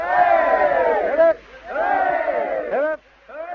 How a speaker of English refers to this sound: I think we should have another 3 cheers for the bride and groom. How about it? Hip hip!